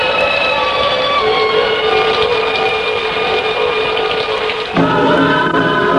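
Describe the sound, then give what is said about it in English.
Steady, loud September rain pours onto Bright Street outside the Rock House radio station in a continuous hiss, with a droning mechanical hum underneath that shifts pitch near the end. No one speaks. “we're just going to pick up a little bit of the sound of the rain on the street there.”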